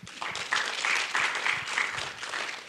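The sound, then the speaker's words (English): An audience applauds steadily to thank participants from Hawkesbury, many hands clapping in a dense, sustained patter that stays fairly loud for a few seconds, with no one speaking over it. “Everyone give them a clap.”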